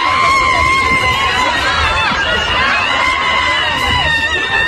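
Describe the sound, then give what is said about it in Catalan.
A loud, dense crowd roars at a November street protest against the amnesty in Plaça Sant Jaume, while a woman with a Spanish flag hung around her neck gives a high, drawn-out shout that cuts through the clamour, with other voices yelling and chattering all around. “Crec que va ser el novembre que va haver-hi la mani contra l'amnistia, i feia aquest crit.”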